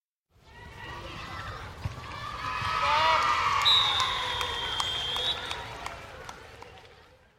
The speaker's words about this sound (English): Noisy boys were playing football with lots of players on each side.